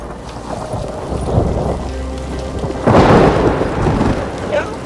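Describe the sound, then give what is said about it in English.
Steady rain pours down in the woods with a low rumble of thunder rolling underneath, swelling louder partway through as the downpour intensifies, continuous. “Rain falls, and they hurry to the creek.”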